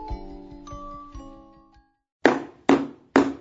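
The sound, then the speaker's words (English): Three loud, evenly spaced knocks on a door ring out, following a brief stretch of fading, ringing tones with soft rhythmic taps. No one speaks. “That sounds like knocking on the door.”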